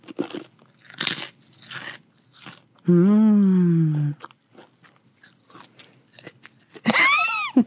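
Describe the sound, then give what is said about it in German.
Crisp crunching of food close to the microphone in irregular bursts, pausing for a loud sustained hum midway, then more scattered crunches before a brief high vocal sound at the end. “Dass RSRM. Du einfach Sachen rein knusperst.”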